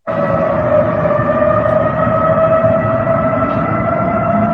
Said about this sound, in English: Hackers got into the emergency notification system in Dallas and set off 156 sirens.